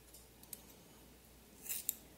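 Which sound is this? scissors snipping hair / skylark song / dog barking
scissors snipping hair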